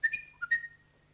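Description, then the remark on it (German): A pet parrot named Lulu gives a quick run of four short, bright whistles at shifting pitches, the last note held a little longer before fading out, with no talking. “Mein süßer kleiner Papagei.”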